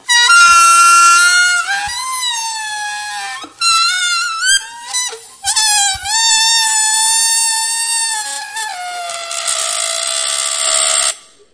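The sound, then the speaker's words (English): Air squeals out of a stretched balloon neck in a loud, reedy, high-pitched whine that wobbles up and down, broken into several bursts with short gaps before a final sustained, buzzier stretch. “When we do that, it's almost like we're letting air out of the balloon.”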